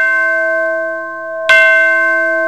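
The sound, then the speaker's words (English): A school bell rings out clearly, struck once and then again a moment later, each strike leaving a bright, sustained metallic tone that hangs in the air. No voices are heard. “Oh, the bell's ringing.”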